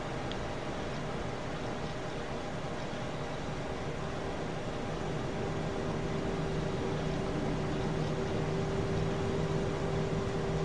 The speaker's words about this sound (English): There's the APU, and I hate these particular sounds.